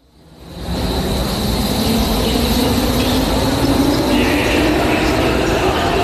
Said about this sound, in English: I'm standing in Berlin's central train station, where I stood 2.5 years ago, watching trains arrive